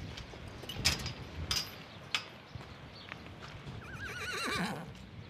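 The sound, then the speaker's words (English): Retrained Standardbred horses shuffle with a few sharp hoof clops on hard ground, then one lets out a quavering whinny near the end, all over a steady windy rumble outdoors. “It's windy out there, but let's wander out and meet some of your retrained horses.”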